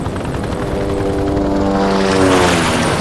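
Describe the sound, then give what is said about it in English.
Loud, steady roar of a helicopter gunship in flight with John Rourke aboard, its engine whine and rotor drone filling the sound, rising slightly in pitch and intensity toward the end, with no voices. “Aboard the helicopter gunship, John Rourke changed to what he considered more suitable and less flashy clothing.”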